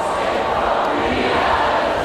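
A vast crowd of about 65,000 people sings together outdoors in London's Hyde Park on July 1st, awaiting a a band concert; thousands of voices merge into a dense, steady roar that holds evenly loud throughout with no single voice standing out.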